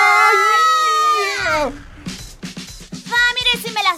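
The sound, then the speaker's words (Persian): A baby wails loudly in one long, high cry that falls away, then breaks into shorter whimpering, fussy sobs with a background murmur. “وای این بچه انگار قصد نداره آروم باشه.”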